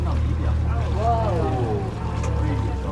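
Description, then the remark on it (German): A steady, loud whale-watching boat engine drones on open water off Uvita, with about 12 boats from different operators around, wind noise, and indistinct voices murmuring faintly beneath the rumble. “plötzlich 12 Boote von verschiedenen Anbietern, mal näher dran, mal weiter weg”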